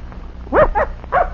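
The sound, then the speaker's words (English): A young hound puppy sniffing for a scent gives three short, high yips in quick succession, clear, with a low background rumble and no talking. “He's still a puppy.”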